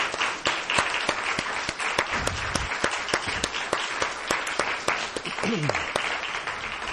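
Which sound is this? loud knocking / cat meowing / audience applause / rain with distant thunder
audience applause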